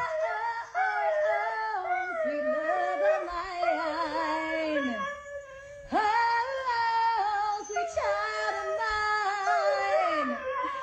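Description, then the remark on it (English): A dog howls along to a song in a duet with its owner, in long, wavering notes that slide up and down, loud, with brief breaks before each new phrase. “This is a dog performing a duet with his owner, Too ….”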